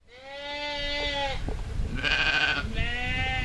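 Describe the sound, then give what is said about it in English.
Several grazing sheep in the English countryside bleat in overlapping, wavering calls, one after another for a few seconds, moderately loud, with no voices. “Grazing sheep adorn the English countryside, but with lamb prices soaring, the sheep are also a juicy target for thieves.”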